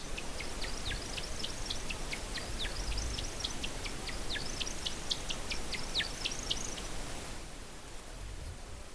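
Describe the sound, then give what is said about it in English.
A rapid series of thin, high chirps from a male bird at the top of a descending courtship display flight, many short downward-sweeping notes in quick succession, fairly faint over a steady background hiss, stopping abruptly near the end. “Now he's starting to make little vocal chirping sounds at the top. He's coming down.”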